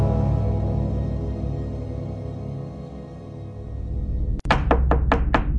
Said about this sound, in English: Someone knocked on Jin's bedroom door. She wasn't going to open it. Jin knew it wasn't Saw. She could hear him talking and laughing down the hall. But the knock came again, and then a third time, more insistent.